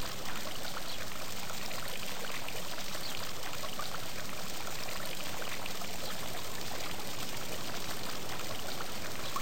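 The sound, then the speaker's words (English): Water streams and splashes steadily down over the ornate carvings of a stone fountain in a garden, a continuous rush with a bright, hissy texture and no pauses, and no voices or other sounds. “The fountain is made of stone, and water streams down over ornate carvings.”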